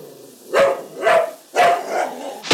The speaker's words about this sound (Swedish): Ja, här har jag hunden.